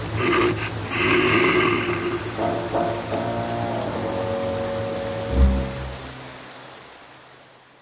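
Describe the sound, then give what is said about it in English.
A hungry female bear grunts and growls low as she comes out of her underground den, a run of rough, rumbling snorts with a louder huffing burst near the end before it trails off. No one speaks. “The bear comes out from her underground den. She is hungry.”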